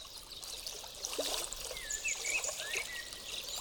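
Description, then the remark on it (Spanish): Water trickles and gurgles steadily in a nearby stream, a continuous soft babbling with small splashes, while a few thin bird chirps sound faintly in the background. “Contempla también un arroyo cercano.”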